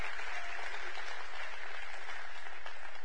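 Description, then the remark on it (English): A church audience applauds the visitors, a dense, steady wash of many hands clapping that holds at an even level for about three seconds with no voices over it. “Church, would you give the visitors just one more round of applause, please?”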